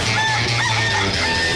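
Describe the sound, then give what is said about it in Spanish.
A rooster crows loudly, one drawn-out, strained call filling the whole moment with no one talking over it. “Ese gallo.”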